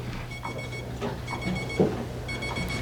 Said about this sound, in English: Okay, the buzzer is telling me that it's time to move along, and the next item is a break.